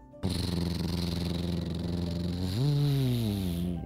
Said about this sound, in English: As Juliana hid right near the tower, a purple pickup truck pulled up.